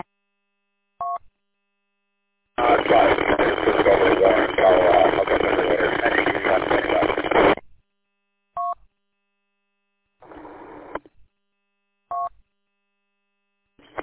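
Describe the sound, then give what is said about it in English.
A telephone line connecting: short electronic beeps spaced apart, a five-second burst of loud hissing line noise, then a few more beeps and a brief crackle, with no one speaking. “I don't know if it's me or hey, I gotta jump off here and grab this phone.”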